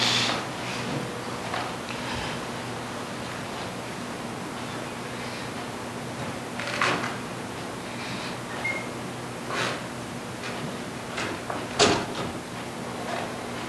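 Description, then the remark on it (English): A door that the wind has blown open swings and is caught and handled against a steady windy hiss, with a few sharp knocks and scrapes spaced several seconds apart. No one speaks. “would you catch the door? The wind has caught it and blown it open.”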